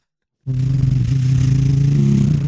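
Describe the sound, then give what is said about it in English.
After a moment of silence, a diesel truck engine abruptly roars to life and keeps running with a loud, steady low rumble and rattling throb. “And he's firing up the engines. Yeah. The BunkTech bunker alarm 3000 is also diesel powered.”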